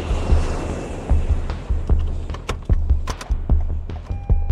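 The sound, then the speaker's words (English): A steady low rumble like an aircraft cabin as a plane touches down in Denver, Colorado, broken by a series of sharp thumps and rattles at irregular intervals, fairly loud, with no voices. “I touch down in Denver, grab my rental car, and make a beeline for Parker.”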